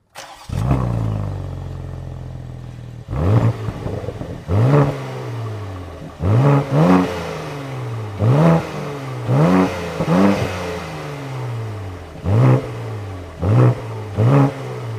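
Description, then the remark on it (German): A car engine starts with a low rumble, then is revved hard again and again in short, loud bursts that climb in pitch and fall back to a deep idle between them. “Aber bevor wir wirklich zum Auto kommen, hätte ich gesagt, jetzt erst nochmal der Sound.”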